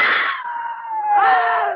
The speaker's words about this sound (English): Scream again. Make noise.